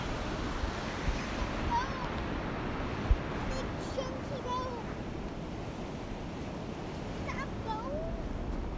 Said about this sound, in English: valley hike, rumbling waves, wind from a far distance, unusual discoveries, I walk.